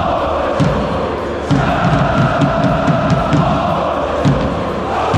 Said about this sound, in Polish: Ponad 26 tysięcy widzów na stadionie we Wrocławiu zgodnie dopingowało piłkarzy Śląska i Motoru. Sympatycy obu drużyn od lat się przyjaźnią, dzięki czemu atmosfera sobotniego spotkania była absolutnie wyjątkowa.